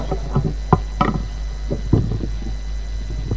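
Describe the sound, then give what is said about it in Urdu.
A chair is brought and set down, making a series of irregular wooden knocks and scrapes over a steady low hum, with no voices. “جی جی کرسی آ رہی, تسی آ رہی, کرسی آ رہی, کرسی لے بھائی.”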